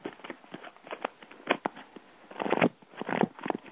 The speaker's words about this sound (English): I'm going to start shuffling and tell me when to stop.